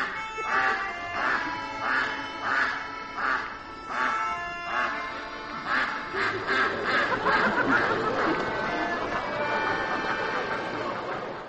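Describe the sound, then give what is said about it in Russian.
A goose, the "Ahhing Goose" act from the circus show "The Invisible Circus" by Victoria Chaplin and Jean-Baptiste Thierrée, honks over and over in loud, nasal bursts at a steady rhythm, then the calls speed up into a denser, overlapping cackling run, with no one speaking. “Это был «Ахающий гусь» из спектакля «Невидимый цирк».”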